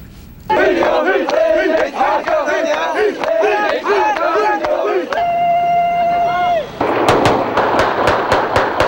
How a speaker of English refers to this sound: Some Iraqis certainly took to the streets, because celebratory gunfire killed at least four people and wounded 60.